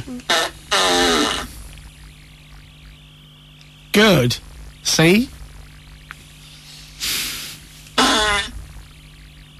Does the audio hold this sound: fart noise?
yes